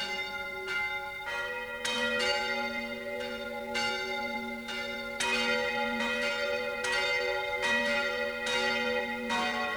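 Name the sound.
church bells ringing loudly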